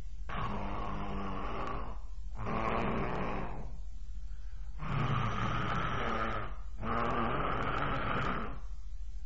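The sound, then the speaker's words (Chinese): A storyteller's voice imitates the character Li Kui's loud, thunderous snoring: four long, rasping, growly snores in a steady rhythm, each about two seconds, separated by short pauses, with no other talk. “李逵睡觉还绝，闭上眼用不了几分钟就着，眼睛一合一会儿睡着了，一睡着这就打呼噜，鼾声如雷。”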